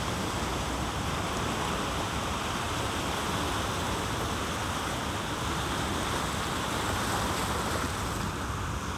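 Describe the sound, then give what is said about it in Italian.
Steady, broad wash of water on a beach, a continuous rushing hiss of surf with no distinct breaks between waves, heard alone without voices. “Ora semplicemente ascolta il suono prodotto dall'acqua sulla spiaggia e percepisci nel colore.”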